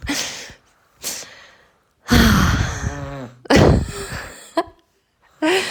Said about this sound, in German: Wahrscheinlich hört ihr jetzt gerade das Schnarchen von dem Kleinen.